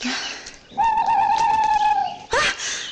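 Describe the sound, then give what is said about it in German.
A single drawn-out hoot of a small owl (Käuzchen) in a forest, clear and holding one steady pitch for over a second before a short, noisy rush of sound cuts in. “Das war doch nur ein Käuzchen.”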